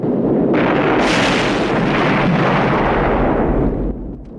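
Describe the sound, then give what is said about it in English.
A truck, set alight by burning petrol jetting from twin pipes at a shop front, explodes in a loud fiery blast, erupting in two quick surges into a sustained roaring, crackling rumble that fades slightly near the end. No one speaks. “The truck catches fire and blows up.”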